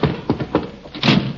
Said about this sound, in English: Hope the door's unlocked. There's the porch. Oh, darn roller skates. Door is stuck.